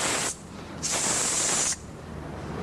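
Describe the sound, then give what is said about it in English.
A person imitates a snake's hiss with two sharp, breathy bursts, a short one followed by a longer sustained hiss, fairly loud, with no speech. “So God comes down to the level of a snake. He wants to call you a three places in the Bible, God is hissing.”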